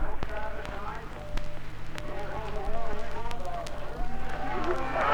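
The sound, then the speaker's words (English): A stadium crowd at Cook's Gardens, Whanganui, cheers Peter Snell as he runs the mile, in perfect weather with no wind, in a steady, continuous roar that swells slightly in places, with a man's voice talking over the noise throughout. “it has been passed around this ground here that the 4 minutes has gone, and that the world record has possibly gone, and the crowd have cheered Snell to the echo as he goes around.”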